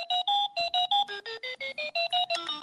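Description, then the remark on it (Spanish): A digital watch beeps as its buttons are pressed to set the alarm, a quick, steady run of about a dozen short electronic tones, shifting to a warbling, changing pitch halfway through, clear with no talking. “Es para poner la alarma, sí, porque esto...”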